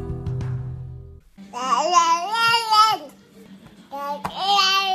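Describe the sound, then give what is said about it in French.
A baby girl babbles in two drawn-out, high-pitched vocal bursts with a short pause between them, fairly loud, after a brief low hum at the start. “Et si bébé pouvait parler, elle vous dirait sûrement.”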